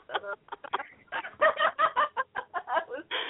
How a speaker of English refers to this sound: I said you should change this text tone, honey. You should change this tone to a kitty meowing.